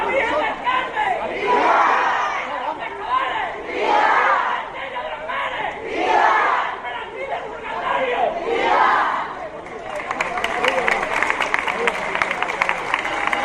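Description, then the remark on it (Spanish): A large crowd in Águilas shouts repeated cheers of "viva" to welcome the Virgen del Carmen, patron of fishermen, before her maritime procession, in rising waves, each swell of voices peaking and fading, followed by a burst of rapid, steady clapping toward the end. “Con estos vivas han recibido hoy aquí en Águilas a la Virgen del Carmen, la patrona de los pescadores, antes de participar esta tarde en la procesión marítima con motivo de su onomástica”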